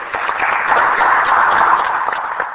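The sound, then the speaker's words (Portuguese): A crowd applauds a deputy's speech in a parliament chamber: dense, steady clapping that stays loud and even for the whole stretch, with no voices standing out above it. “Um duplo aplauso, não só pelo conteúdo das suas conclusões, mas também porque conseguiu ser tão sintético e cumpriu rigorosamente os 5 minutos.”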